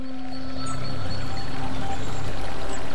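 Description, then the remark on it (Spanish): Water flows steadily in a stream in Córdoba province in summer, a continuous babbling and rushing that holds at an even level throughout, with a faint tonal hum running underneath. “Ese momento en que te descalzas, metes un dedo en el arroyo y verano en Córdoba.”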